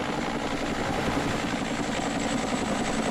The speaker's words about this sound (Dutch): Nou, de helikopter gaat een beetje laag over. Hij komt erg dichtbij nu. Ze zwaaien hier.